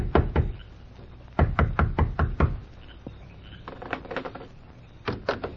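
Loud knocking on the wooden door of a sheriff's home late at night, in quick bursts: two raps, a pause, then a rapid run of five or six, with fainter taps and a last pair of knocks after a lull.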